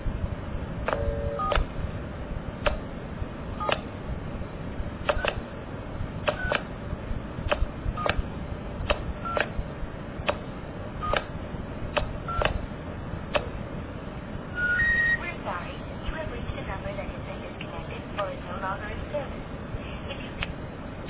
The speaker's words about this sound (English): But what I did was, using the touch tones, I pushed and I waited, and you could hear it converting to pulse. This is what it sounded like.